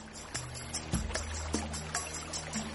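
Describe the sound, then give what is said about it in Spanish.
A mountain stream on Mount Rainier flows steadily, a continuous watery rush with a few soft splashes and knocks breaking through now and then. No voices are heard. “Steve Ingebrigtsen está instalando un nuevo tipo de sensor en los arroyos del monte Rainier”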